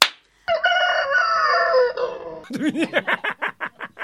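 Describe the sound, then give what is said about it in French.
A rooster lets out one long, loud, drawn-out crow, then breaks into a quick run of rhythmic clucks. No voices are heard. “La première déduction qui s'impose, malgré une espérance fugitive déléguée par un cocorico de stricte politesse”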